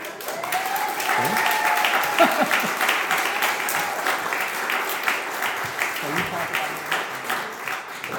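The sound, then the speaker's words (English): Sustained audience applause, a dense, steady patter of many hands clapping for several seconds, with a faint whistle or voice briefly rising above the crowd near the start. “So that's our book list for the fall reading season, where that applause sign would come up now.”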